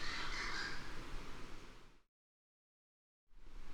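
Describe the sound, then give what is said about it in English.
Harsh, raspy calls from a pair of Cuban crows eating palm fruits run together in a two-second burst, go silent briefly, then start again, with no voices. “Both members of this pair of Cuban crows are eating palm fruits.”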